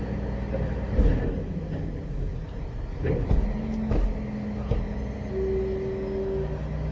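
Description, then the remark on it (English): A big green garbage truck collecting garbage rumbles steadily while a few sharp clanks and thumps ring out, followed by a rising mechanical whine as its hydraulic lift works. “Getting our garbage. Bye, garbage.”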